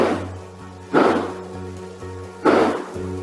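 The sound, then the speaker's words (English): Two sharp gunshots crack out about a second and a half apart, each trailing off briefly, over a steady low electrical hum, captured around 10 p.m. at night by a neighbor's home surveillance system. “A home surveillance system from the neighbor captured these loud bangs around 10 p.m. that night.”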